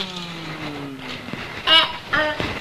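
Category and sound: vehicle, police car driving past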